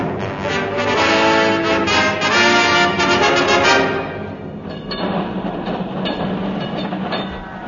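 London's last tram rumbles past on its rails on 5 April 1952. It is loud at first, with a rich metallic rolling drone and squealing overtones, then fades to a softer, rougher rumble as it moves away.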